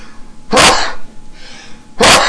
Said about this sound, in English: Bless you. Bless you again.